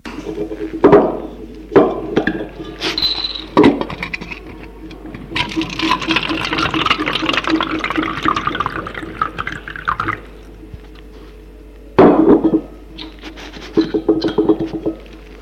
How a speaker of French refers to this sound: Charles remplit le verre qui est sur la table de nuit.